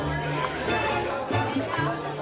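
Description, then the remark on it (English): A crowd chattering among themselves, many overlapping voices blending into a steady, fairly loud babble with no single speaker standing out, continuing without pause throughout. “The crowd gasped. Then they began to chatter amongst each other.”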